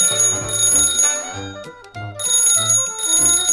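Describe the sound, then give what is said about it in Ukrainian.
A telephone rings with a loud, shrill, bell-like trill in two long bursts separated by a short pause, over a steady lower tonal backing with no voices. It is the bear calling the fox. “Так, я й телефоную, щоб вибачитися, але я не прийду.”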